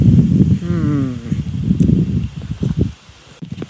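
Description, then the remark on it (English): Wind blows steadily across an open dam outdoors, a gusty low rumble buffeting throughout, with a brief tonal voice-like sound early on before the gusts ease near the end. “The nice thing about out on the dam, it's windy, so the mosquitoes aren't bothering me at all.”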